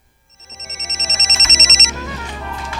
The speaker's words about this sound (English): I want you to see what happened when that phone rang. Watch this.